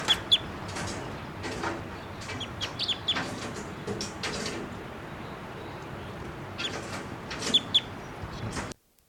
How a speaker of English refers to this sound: Okay, the first two birds that were captured will be 687 female, 688 the male, and the last bird that was just calling there was collected, and he'll be 689 JGG 612, and he was also photographed with a 500 millimeter lens just prior to collection.